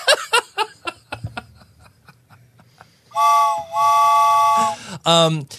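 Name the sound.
steam train whistle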